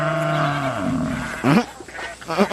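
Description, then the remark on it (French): The sheep Bulot bleats: one long, wavering bleat that sags in pitch, then two shorter, quavering bleats a moment apart. No one speaks. “Un être vil et machiavélique. Le mouton Bulot.”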